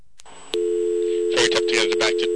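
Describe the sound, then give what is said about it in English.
A payphone clicks twice as a toll call is dialed and the payphone takes over the call, then a steady low call tone begins and holds throughout, with bursts of noisy clattering and muffled, wordless voice-like sound layered over it. “to dial a toll call, what will happen is, well, first off, the math piece will cut out, so I can't narrate, but the actual payphone itself will take over the call.”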